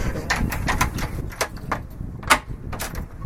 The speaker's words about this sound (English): Here we go. Confident knock.